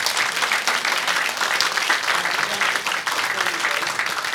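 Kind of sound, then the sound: crowd, audience applause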